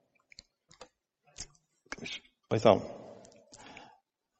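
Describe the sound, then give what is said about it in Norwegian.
A few small, quick clicks of a computer mouse as someone clicks on two things at the same time, followed by louder knocks and rustling handling noise. “Jeg må klikke på to ting samtidig her, det er derfor jeg blir litt...”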